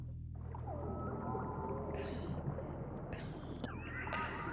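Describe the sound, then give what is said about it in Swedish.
Recorded whale song: long, sliding moans and tonal calls rising and falling over a low, steady rumble, with occasional brighter squeals, continuous throughout. “Vi lyssnar på valmusik.”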